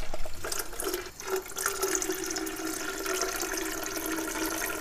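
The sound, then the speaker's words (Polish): A thin, steady stream of water runs weakly from a tap under very low water pressure for the whole stretch, a continuous splashing hiss with a faint pipe hum underneath and no voices. “Teraz wieczorem, no to nawet na herbatę wodę ciężko nabrać, bo jest tak słabe ciśnienie, że woda prawie nie leci.”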